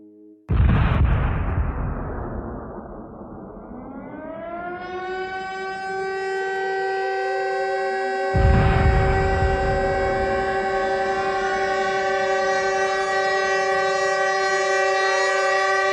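Loud steam-engine whistles blast over a noisy rush, joined by sirens that wind upward and hold steady, layering into a dense, sustained chorus of shrill tones with a second whistle burst midway, from the famous symphony of whistles heard in Baku and Moscow in the early 1920s.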